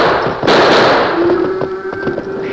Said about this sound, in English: Those shots have stampeded the cattle.